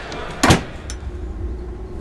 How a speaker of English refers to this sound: Right, there's a door over here out onto a balcony. That should be a bit quieter.